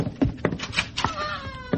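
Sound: newborn baby crying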